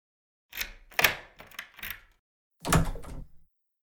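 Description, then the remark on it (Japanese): A spare key rattles and turns in a lock with a few sharp metallic clicks, then after a short pause a door swings open with a louder thud, with no one speaking. “連絡しておいたのにな。合鍵、合鍵。”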